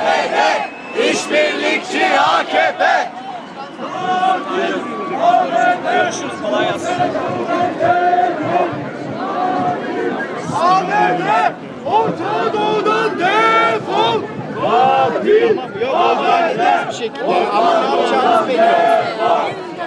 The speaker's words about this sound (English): We're right near the front of the march now.